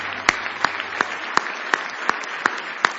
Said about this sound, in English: Now give Jesus a nice hand clap of praise.